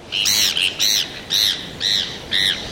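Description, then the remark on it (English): Heermann's gull, a gull with a very dark back, powder-white head and blood-red beak, calls in a steady series of five harsh, nasal squawks, evenly spaced, with no one speaking and a faint background hiss between them. “Heerman's gulls nest along the northwest coast of Mexico, disperse northward for a few months each summer, then return south.”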